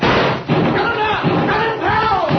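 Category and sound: impact, door slammed shut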